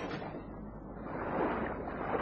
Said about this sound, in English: You can hear the tide coming in, can't you? Yes.